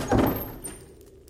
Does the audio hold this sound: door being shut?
yes